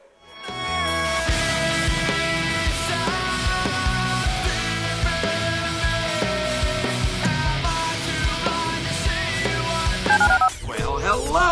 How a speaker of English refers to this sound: Dial the phone.